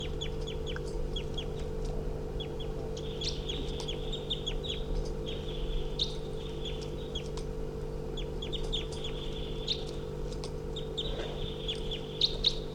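A female wild bird on the ground, hopping around, calls loudly and repeatedly nearby, a run of high, sharp chirps and trills that keeps going over a steady low hum, with no one talking.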